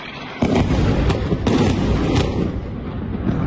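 artillery fire and explosions

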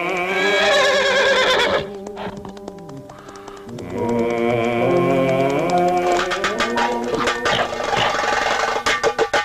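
horse neighing

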